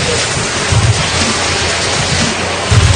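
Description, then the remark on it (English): A building implodes in an explosion, rumbling as a steady, dense roar, with deep low booms surging up twice within it. No voices are heard. “Okay, there's the explosion. The building implodes.”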